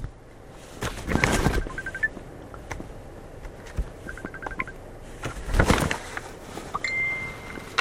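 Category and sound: signal or alarm, phone ringing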